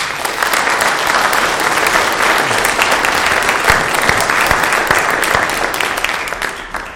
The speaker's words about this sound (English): Very cool. Thank you both so much. Give them a hand.